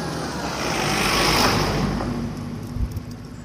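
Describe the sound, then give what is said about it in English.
A heavy lorry carrying a digger on its back rumbles past, its deep engine drone swelling to a peak and easing off, with a broad wash of road noise and no talking. “I think this is the lorry coming with the digger on the back.”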